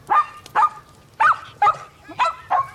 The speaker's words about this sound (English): Really? Doctor, this is a dog. There were dogs in London. It might look and sound like a dog, but this could be the dominant life form here.